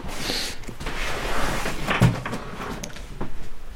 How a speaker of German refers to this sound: Noch eine Tür.